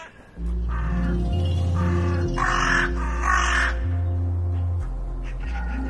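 crow cawing

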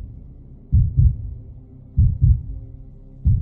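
fast heartbeat sound effect

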